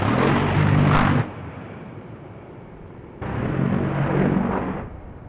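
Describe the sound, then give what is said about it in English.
Two loud, buzzing bursts of rapid fire from the 30-millimeter rotary cannon of an A-10 Warthog jet, each about a second long, separated by a stretch of lower jet rumble; the second burst is slightly longer. No voices. “It's not as sleek as a fighter jet, but the burst of fire from its 30-millimeter rotary cannon is startling.”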